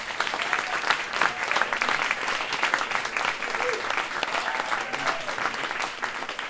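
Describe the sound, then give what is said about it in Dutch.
An audience applauds steadily to welcome a guest, an engineer and poet, at a discussion on fear of climate change, a dense, even patter of many hands clapping that holds at a fairly loud level throughout without fading or breaking. “Applaus alstublieft.”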